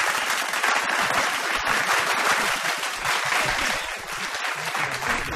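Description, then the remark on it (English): A crowd claps steadily throughout, a dense, loud wash of applause that holds an even level for several seconds with no voices over it, a requested fake round of applause for a guest. “Give him a fake round of applause.”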